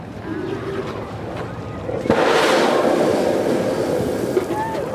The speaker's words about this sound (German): Und Sekunden später ein Wasserdampfstrahl fauchend in die Höhe schießt.